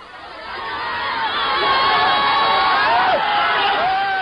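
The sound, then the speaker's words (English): A large crowd of striking factory workers in China shouting and yelling all at once while blocking the road outside Merry Electronics, pushing and shoving in a face-off with government security officers; a loud, dense roar of overlapping voices with sharp individual cries rising above it, building slightly and staying intense throughout. “Workers blocked the road, pushing and shoving in a face-off with government security officers.”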